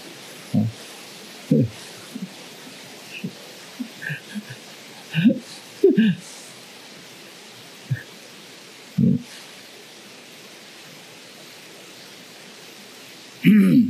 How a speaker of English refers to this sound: So we're going to do Shinen meditation on the rain, the sound of the rain. We're going to do one pointedness meditation on the sound of the rain.